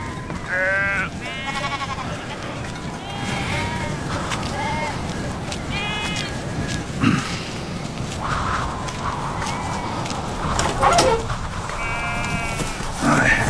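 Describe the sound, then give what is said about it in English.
A flock of sheep bleat repeatedly, several wavering calls overlapping throughout, over a steady low rumble with occasional thumps and rustling like hooves or footsteps. “There's our lamb coming.”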